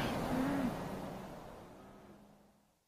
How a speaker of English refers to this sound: No. The lorry's only just got here. I've been hanging around waiting.